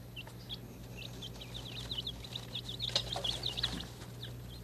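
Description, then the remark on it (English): A young duckling peeps in a quick run of shrill, high chirps as it is picked up, with faint rustling from handling and a steady low hum underneath. “Now, is that a duckling or a chicken? Duckling.”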